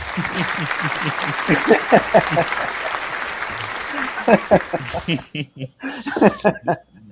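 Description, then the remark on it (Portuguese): A loud burst of crowd applause, played as a sound effect during a live show, fills the first few seconds with dense, steady clapping, mixed with laughter and cheering voices, then fades into scattered voices and chuckles. “Aplausos, quero... deixa eu procurar aqui. A salva de aplausos.”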